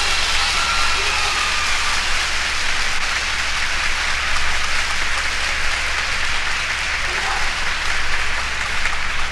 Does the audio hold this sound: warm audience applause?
yes